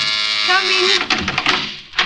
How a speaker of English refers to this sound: Well, I've been ringing and ringing. Oh, I'm sorry. I was in the bathroom. I thought I heard the buzzer.